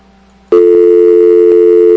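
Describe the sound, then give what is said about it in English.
After half a second of near-silence, a loud, steady telephone line tone switches on during a repeated attempt to place a call, a buzzy mid-pitched hum like a busy signal, holding unbroken to the end with no voices. “Okay, I guess we're going to try to call him again.”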